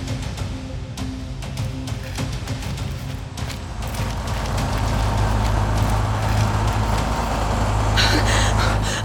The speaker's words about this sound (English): Ah, goddamn tow truck. A what? Sorry, that's an old school thing. A retrieval service. Someone's trying to drag your van away.